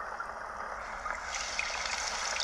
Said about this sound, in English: Hang on a second. This is what I have to listen to. I have to have that playing. Drowns out the tinnitus. It's on the same frequency. Well, this is rain.